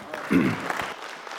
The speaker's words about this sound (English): Thank you for clapping. You have no idea whether it's going to be any good or not, but you clapped anyways. Thank you.